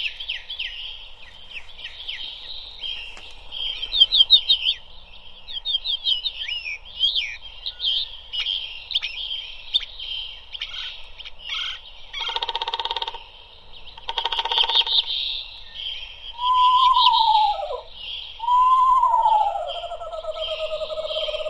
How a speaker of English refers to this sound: Now, the pop-up has those woodpeckers right at the top of the trees, popping up right out of the book. Yeah, those nice knocking sounds.